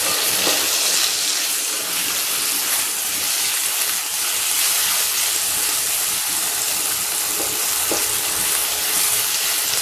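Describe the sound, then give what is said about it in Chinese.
Dried tofu sizzles steadily as it is pan-fried in a hot pan until slightly firm, a loud, continuous hiss with faint crackles throughout and no voices over it. “需要炸一会儿，需要把它炸把这个香干炸成，应该说煎成有一点硬硬的才可以。”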